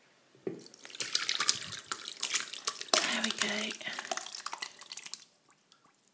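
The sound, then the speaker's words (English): Infused water poured into a tea-towel-shaped piece of cotton cloth trickles and gurgles steadily through it for several seconds, a busy stream of small splashes and drips, with a brief spoken remark near the start before it tapers off. “Just dripping through there already. You can hear that gurgling.”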